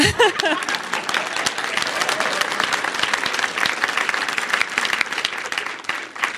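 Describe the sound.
A large audience breaks into sustained applause, dense and steady for several seconds, with a brief voice and a few cheers at the start before the clapping fills everything.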